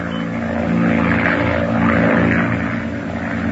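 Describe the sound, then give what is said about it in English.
A monoplane's propeller engine drones steadily overhead as it passes over the Channel near Cherbourg, France, a loud, continuous rumbling hum that swells slightly in the middle as it passes, with no voices. “A monoplane was observed passing over the French Channel by the fishing boat Jamarc.”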